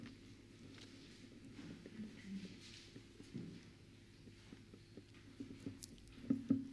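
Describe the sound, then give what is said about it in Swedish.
Soft rustling of Bible pages being flipped to Psalm 116, a quick series of light papery flicks and taps at low volume, growing a little louder toward the end, with no talking. “Vi ska bläddra till 116 psalmen.”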